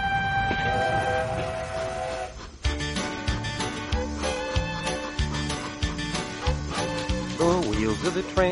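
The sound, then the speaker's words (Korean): A train on a cross-country trip across the United States rolls along the rails, loud, with a steady rhythmic clatter and sustained whistle-like tones ringing over the rumble. “미국 대륙 횡단 기차 여행 떠나보시죠.”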